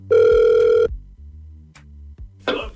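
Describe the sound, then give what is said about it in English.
A single loud, steady electronic ringback tone on an outgoing call from the Hot 96.9 radio station lasts under a second, then gives way to a quiet low hum and a brief burst of line noise near the end. No one speaks. “We're calling you from Hot 96.9, a radio station.”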